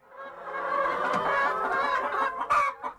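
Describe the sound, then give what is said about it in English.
A flock of laying hens on a farm clucks and murmurs continuously, several birds overlapping, with a couple of sharper, louder squawks near the end and no talking. “All those noises they're making, they're saying, we want to lay eggs, we want to lay eggs.”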